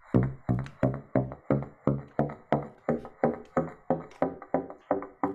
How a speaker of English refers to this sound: I just played a chromatic scale from a low B up to an F sharp without a reed. And that is acoustically identical to what you're doing on a pizzicato.